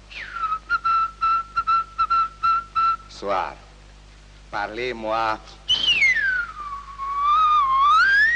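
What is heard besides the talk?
person whistling a melody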